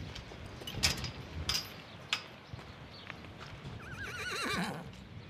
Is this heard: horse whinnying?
yes